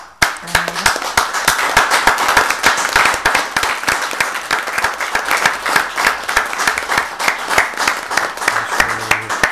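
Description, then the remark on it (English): Sustained applause in a council chamber honouring the chairperson's year in office, dense overlapping claps at a steady level for several seconds, with no talking over it. “So on behalf of Sinn Féin, we thank you so much for all your very hard work, and we applaud your fantastic year as chairperson.”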